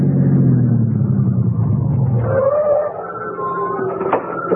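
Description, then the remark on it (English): A car engine pulls up as the car arrives home at night after an evening church service, its low rumble winding down in pitch before settling into a steadier, higher idle hum, with no voices. “Aren't you going to put the car away”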